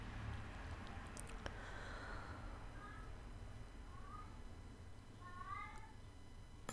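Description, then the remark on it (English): A cat meows several times in the background, soft calls with rising and falling pitch, spaced a second or two apart over a steady low hum. “Another cat in the background.”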